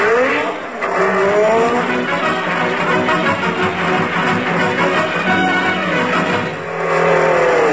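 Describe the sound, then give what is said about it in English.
A car roars by at speed, its engine loud and steady while tires screech in high, wavering squeals that rise and fall over several seconds, with no one talking. “I don't know why these drunken drivers...”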